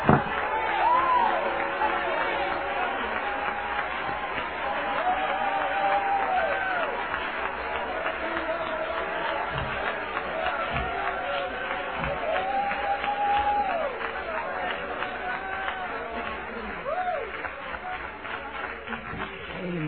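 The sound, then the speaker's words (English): An audience claps and cheers steadily, a dense wash of applause with voices shouting and rising in excitement throughout, loud and sustained without pause. “Let's all clap again.”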